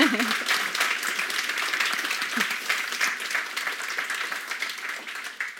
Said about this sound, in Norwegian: En femmer, altså. Applaus.